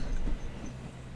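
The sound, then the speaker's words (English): A steady low rumble of a train carriage rolling along the rails, continuous, with faint rattling over the whole stretch and no voices. “We're even alone on this train right now.”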